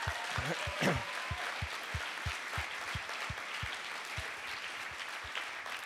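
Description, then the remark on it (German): An audience applauds the choir at an evening gathering near Christmas, dense clapping filling the whole stretch with a few sharper, louder claps standing out in a rough rhythm, and a brief voice rising through the noise early on. “Komm, wir geben schon mal einen Applaus hier in die Runde.”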